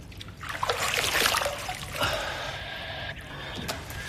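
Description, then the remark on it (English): Water splashes as a squatting man scoops it from a pool onto his face, a broad wet burst followed by softer dripping and trickling, with no voices. “Squatting, he splashes his face.”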